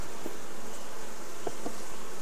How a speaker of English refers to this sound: frame number 2, more of the same, just a handful of bees. And these frames were loaded with honey previously.